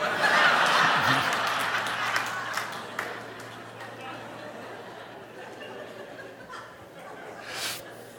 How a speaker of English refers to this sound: Now, the people who clapped are the ones that see themselves in that situation.